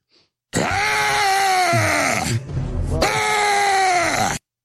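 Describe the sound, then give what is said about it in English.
Two long, loud screams, each lasting about two seconds and separated by a brief pause, ring out harsh with no talking around them; a screaming sound effect played from a soundboard. “We have women and animals you can scream, but not dudes.”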